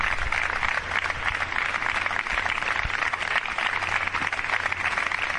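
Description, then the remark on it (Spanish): A large crowd applauds steadily at the end of a silent gathering in front of the Palacio Foral of Guipúzcoa, presided by Eider Mendoza; a dense wash of many hands clapping at once that stays loud and even throughout with no voices standing out. “Una concentración silenciosa frente al Palacio Foral que ha estado presidida por la diputada general Eider Mendoza y su gobierno, y solo rota al final por un gran aplauso.”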